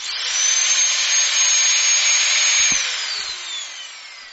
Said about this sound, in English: Ooh, lovely, that's my vacuum cleaner. So a vacuum cleaner is what you use to clean the floors, the carpets in your house, to get up the crumbs and the fluff off your carpet.